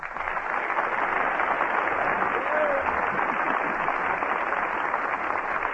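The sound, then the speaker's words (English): A studio audience applauds steadily as Fred Allen is presented in person, a dense, even wash of many hands clapping that holds at a constant loud level for several seconds without letting up. “That's the second largest industry in the country, raising applause cards.”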